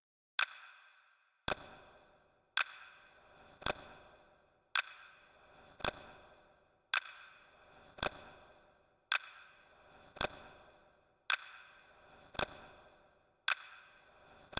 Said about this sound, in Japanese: これは現在実際に流れている時間、ただの普通のどこにでもある時計です。 そしてここにもう一つ時計を追加します。